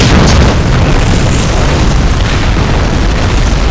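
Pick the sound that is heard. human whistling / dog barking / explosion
explosion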